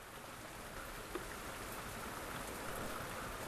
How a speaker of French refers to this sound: Le ciel est bas et gris. Il pleut sans arrêt depuis l'aube. Peut-être pleut-il depuis la veille ou depuis la nuit. Ça n'arrête pas de couler.